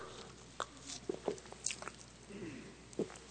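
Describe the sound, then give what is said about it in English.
A speaker takes a few quiet sips of water, with soft wet mouth clicks and small swallowing sounds scattered over a few seconds, otherwise silent. “Just get a little bit of water here to help.”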